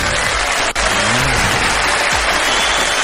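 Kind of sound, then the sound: crowd, audience applause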